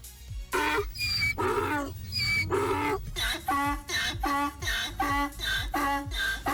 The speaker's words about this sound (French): Ce matin, on va s'intéresser aux ânes. Les ânes, les animaux, si jamais, qui font ce bruit-là, au cas où, pour vous rappeler.